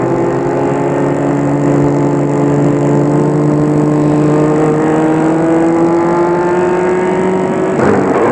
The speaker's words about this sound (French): Or, arrêtez la voiture devant l'entrée du cimetière.